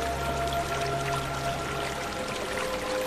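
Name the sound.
river water flowing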